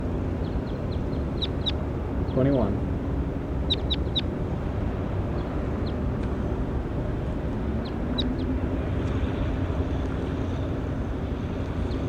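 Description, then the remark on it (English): A bird, recorded as bird 21, gives short, high chirps in several quick bursts, with pauses between them, over a steady low engine-like rumble that runs throughout. No one speaks. “Start recording 21. There he is.”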